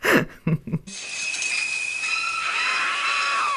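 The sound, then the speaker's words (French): A few short vocal bursts give way to a woman's long, shrill scream, held steady and loud for several seconds with a harsh, piercing edge. “Il est temps pour vous, …, de pousser un cri.”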